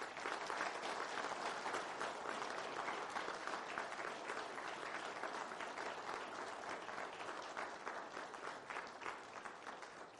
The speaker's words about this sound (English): I think as they're passing those out, I think it'd be appropriate if we gave them a round of applause as well.